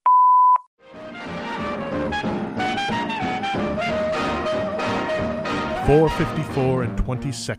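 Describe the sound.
A single loud, steady beep at a fixed mid pitch lasts about half a second: a telephone time-announcement tone. After a brief pause, a continuous stretch of voice-like sound follows, the announcement giving the time as exactly 4:54 and 20 seconds.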